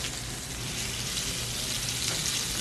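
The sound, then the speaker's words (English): Fish, pressed with coarse pepper and kosher salt, sizzling in hot canola oil, a steady, dense crackle and hiss spread across the upper range, holding at an even level throughout with no voices. “A little bit of canola oil, so I know that it's hot. Here it goes.”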